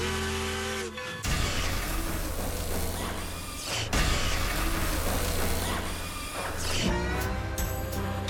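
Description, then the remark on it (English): A train being operated runs with a steady low engine drone and busy mechanical clatter and rattling throughout, with a tonal whine at the start and again near the end. No one speaks. “I'm operating the train.”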